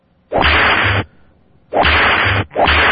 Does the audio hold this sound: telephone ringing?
no